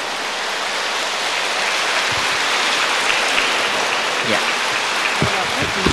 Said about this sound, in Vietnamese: Giờ phút danh dự nhất, và chúng con cung thỉnh Hòa Thượng nhận xác lập kỷ lục và kính mời hội trường cho một tràng pháo tay thật lớn và thật dài để kính mừng Hòa Thượng A Di Đà Phật, ghi hình lưu niệm.